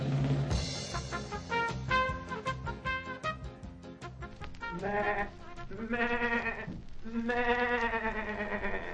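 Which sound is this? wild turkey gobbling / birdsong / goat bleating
goat bleating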